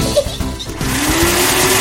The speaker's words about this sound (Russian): Это мам пылесосить начала.